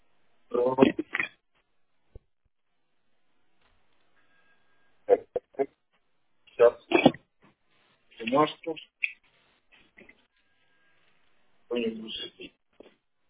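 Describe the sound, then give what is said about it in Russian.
Someone rummages to fetch a pen, with scattered bursts of rustling, clicks and handling noises in short irregular clusters, separated by quiet gaps, while a voice murmurs briefly now and then. “Сейчас, секунду, ручку возьму.”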